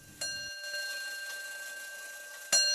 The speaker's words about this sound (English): I adore clocks and watches. Every hour, my house echoes to the chimes of antique clocks, big and small.